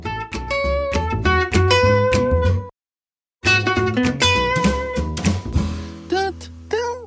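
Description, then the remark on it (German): A short, bouncy intro jingle for the Mentors Katzenbazar segment of Kanzleifunk, with punchy bass and bright, bell-like melody notes, breaking off for a brief silent pause before resuming and ending on a few sliding tones. No one speaks. “Ach, ich liebe diese Musik.”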